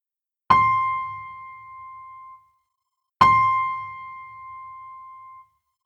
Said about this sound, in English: Question 1, first time. You will hear 2 tones. Do these tones sound high or low?